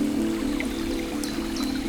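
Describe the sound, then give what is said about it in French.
A small stream gurgles and trickles steadily, with a constant watery murmur and faint chirps of birds high above it; no one speaks. “Où gargouille le ruisseau,”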